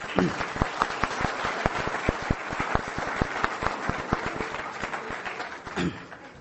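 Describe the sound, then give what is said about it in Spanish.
An audience at an Alcoholics Anonymous convention breaks into applause for a first-time attendee, many hands clapping in a dense, steady patter with sharp individual claps standing out, holding at a moderate level for several seconds with a brief voice near the end. “Si dentro del transcurso de la reunión ha llegado una persona que venga por su primera vez a esto, levante su mano para darle un aplauso.”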